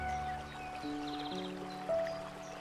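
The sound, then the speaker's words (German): Steady rushing of a small stream by a meadow, a soft continuous wash of water, heard beneath gentle sustained musical tones that shift pitch a few times. “Du hörst das Wasser rauschen,”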